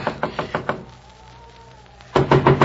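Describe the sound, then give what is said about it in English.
A quick series of about five loud knocks on Bauer's door in the snow, to wake the old man, a short pause, then another rapid burst of four knocks. No one speaks. “Come on, Bauer, open up the door.”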